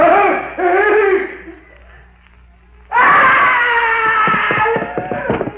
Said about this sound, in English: I heard a scream.